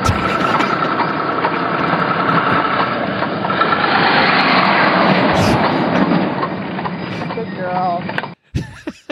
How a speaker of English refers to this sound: Oh, crap, there's a big semi. Hold on.